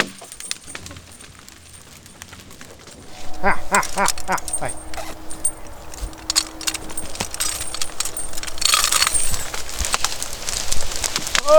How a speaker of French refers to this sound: Là, c'est la pause casse-dalle pour le cheval. Oh bah, dès qu'il y a à manger, des 2 ou 3 feuilles, de toute façon.